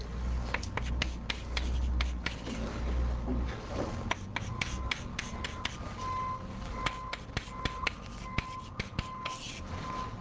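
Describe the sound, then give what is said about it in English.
Chalk or marker writing down a polynomial equation on a board: a steady series of sharp taps and short scrapes, fairly clear, with a low room hum underneath and no talking. “And, you know, there are lots of points that sit outside this nice Venn diagram here, and let me just write one of them down.”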